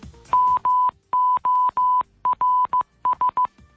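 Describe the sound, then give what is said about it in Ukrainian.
An SOS distress signal in Morse code, tapped out as a steady mid-pitched electronic tone: short beeps, three long dashes, then more quick short beeps, clear and alone with no voices. “Сьогодні виповнилося 100 років сигналові СОС.”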